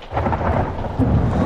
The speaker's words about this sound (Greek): Έξω βρέχει άγρια.